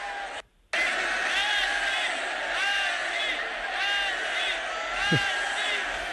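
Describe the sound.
After a brief gap of silence, a large stadium crowd chants "Messi, Messi" loudly and continuously, many voices shouting together in a rhythmic, roaring wall of sound.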